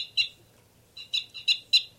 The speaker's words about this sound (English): 318 here. That was 318 long before, too. Now both birds. 318 loud.